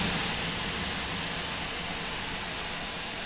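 Water is thrown on a hot sauna stove and steam hisses loudly in a steady, broad rush that holds for a few seconds as it rises from the stove hatch, with no one talking.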